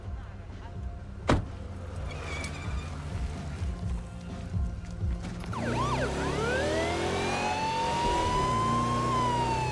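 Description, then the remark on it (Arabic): A low rumbling with a sharp knock and scattered thumps gives way halfway through to a loud emergency vehicle siren, its wailing tone sweeping up and down continuously to the end, as the vehicle drives fast through town. “اسمعي، أحب تشغيل صفارة الإنذار والقيادة بسرعة عبر البلدة.”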